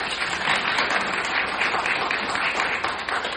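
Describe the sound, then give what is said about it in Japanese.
An audience applauds the Yamanashi Heiwa University choir after their singing at a worship service, a dense, even wash of many hands clapping at once that holds at a constant, fairly loud level throughout without pausing. “もう一度皆さん盛大な拍手を。”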